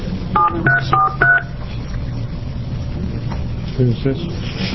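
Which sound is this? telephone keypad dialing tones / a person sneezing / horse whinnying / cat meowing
telephone keypad dialing tones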